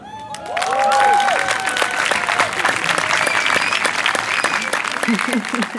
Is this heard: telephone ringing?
no